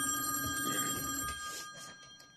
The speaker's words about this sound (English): Hold on. The phone's ringing. Hold on.